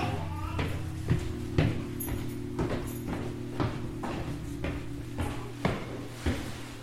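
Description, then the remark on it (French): A hotel room door is worked open as a guest is shown how it works, its handle and latch giving a series of sharp clicks and knocks over a steady low mechanical hum. “Je vous donne juste le coup de la porte si vous voulez sortir.”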